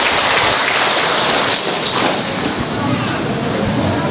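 A crowd bursts into sustained applause for a young girl, a dense, steady roar of many hands clapping that stays loud for the full four seconds with no voices rising above it.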